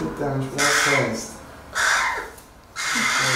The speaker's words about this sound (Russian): Этого разговорчивого вороненка в начале прошлой недели, прячущимся под своей машиной, нашел простой лепайчанин. Он доставил птенца в ветеринарную клинику.